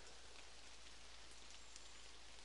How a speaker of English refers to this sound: On top of that, you may also be able to hear the pitter-pattering of raindrops on the leaves in the surrounding canopy of this little section of woodland in which I'm sheltering.